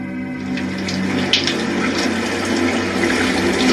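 A shower runs steadily, a continuous hiss of spraying water that holds an even level throughout, with a faint splash or clink near the middle and no voices; a woman is showering at a friend's home in Youngstown.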